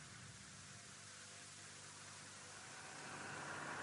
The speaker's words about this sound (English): Wait a moment, old boy. There'll be a gap in the traffic in a moment, if we're lucky.